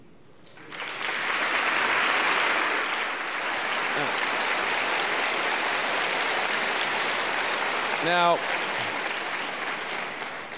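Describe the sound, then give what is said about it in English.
Sustained applause from a crowd, a dense even wash of clapping lasting about ten seconds, with a man's voice briefly cutting in near the end. “you guys never clap for my sermons.”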